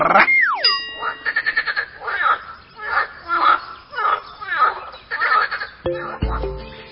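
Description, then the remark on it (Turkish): A frog croaks in a steady series of about seven raspy bursts, framed by a springy sliding tone at the start and a bright chime at the end. “Bildiniz değil mi? Bu canlının adı kurbağa.”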